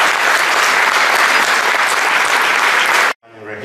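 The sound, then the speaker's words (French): Loud, dense applause from a large crowd as a speaker is presented on stage for an opening keynote, roaring steadily for about three seconds, then cutting off abruptly, followed by a brief burst of what sounds like a voice. “Sous vos tonnerres d'applaudissements, s'il vous plaît.”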